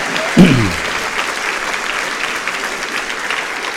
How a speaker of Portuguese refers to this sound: Aplauda o Senhor e celebra o seu nome.